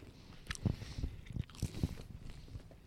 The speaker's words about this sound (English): A little eating. Yep. Some light eating. What could we go into while we're eating?